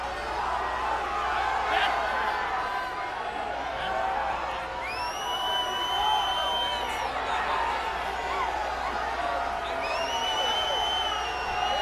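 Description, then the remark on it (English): A concert audience shouts song requests and cheers in a dense, steady roar, loud overlapping shouts throughout, with a few long whistles rising above the din. “I want you to keep in mind that I'm not going to be able to distinguish your answers for this next question because of the roar.”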